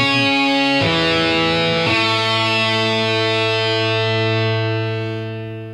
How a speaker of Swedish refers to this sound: Ja, vi glömde köra dagens Ekis-vignetten faktiskt igår. Vill du göra det nu i efterhand? Ja, jag tänker det, bara så att du ska få höra den. Jag tycker den är ganska rolig faktiskt.